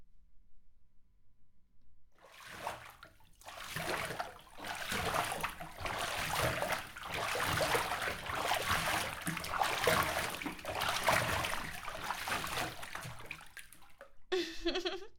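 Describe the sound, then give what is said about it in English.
Water splashes and trickles steadily for about twelve seconds, a continuous sloshing as someone gets into a filled bath of warm water, then cuts off abruptly. “The water is so warm. It's just the right temperature for me.”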